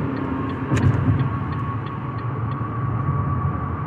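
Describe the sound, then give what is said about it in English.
Steady low road rumble from inside a moving car, a broad constant roar with a faint tonal hum and a brief louder swell around the first second; no one speaks. “And for everybody that don't know, excuse me, I am inside the car, so you're gonna hear, you know, you might hear some trucks, some horns, you know, some blinkers going on and off.”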